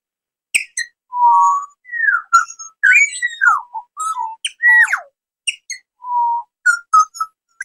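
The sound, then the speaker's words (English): Four small birds perched on a picnic table sing in a lively run of clear whistled notes, sliding chirps and short high tweets, broken by brief pauses, with no talking. “So four birds landed on the table I'm sitting at. And they're singing to us and they're listening to us right now.”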